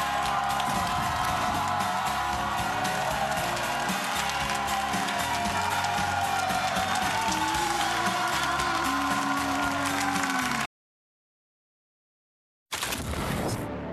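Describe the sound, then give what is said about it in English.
A large crowd roars and cheers continuously at a College Football Live broadcast in Knoxville, Tennessee, on a Friday, supporting their squads: a dense wall of voices and whoops, then cuts to silence for about two seconds before the crowd noise returns. “Good crowd out here for a Friday, making some noise, supporting their squads.”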